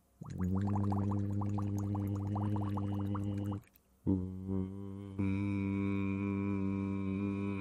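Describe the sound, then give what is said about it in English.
As a voice exercise, a steady hum is voiced through a tube into water, with rapid bubbling over the first half. After a brief break, a second sustained hum follows and steps up in pitch. “Can you add voice to it now? Hum with it.”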